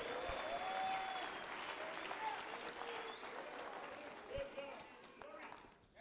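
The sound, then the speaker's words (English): An audience breaks into sustained applause for the Lord, a dense steady wash of many hands clapping with scattered voices and cheers mixed in, fading slightly toward the end. “Give the Lord a clap of somebody.”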